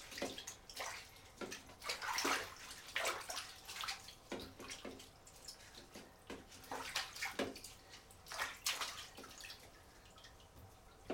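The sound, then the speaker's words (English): A child repeatedly sloshes and splashes water in a bathtub, irregular bursts of splashes, loud and busy for the whole stretch with no talking. “You want to stop splashing?”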